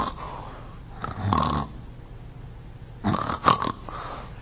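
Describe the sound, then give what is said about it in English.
Two rough, rattling snores, moderately loud, from a person with sleep apnea, separated by a brief quiet gap where the breathing stops before the next heavy snore resumes. “Typically, this is what a person with sleep apnea will kind of sound like.”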